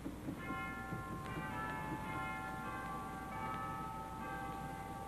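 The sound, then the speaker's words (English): Sustained bell-like chime tones from an organ ring steadily, with several bright pitched notes overlapping and fading over a low background hum, no voices present. “Chimes. Beautiful chimes.”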